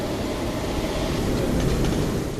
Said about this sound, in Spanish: Sí, esto es estamos escuchando la Revolución Industrial, entonces son el fuego, el vapor, las máquinas y el humo. Hay vapor, ¿verdad? Ahora hay vapor de agua. Sí, ya empezó el vapor físico.